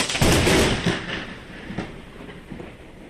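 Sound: thunder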